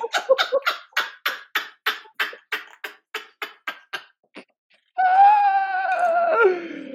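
A rapid run of sharp, breathy vocal bursts, then a brief pause before a loud, drawn-out dramatic scream that sinks into a wavering moan. The voice is clear, with no talking.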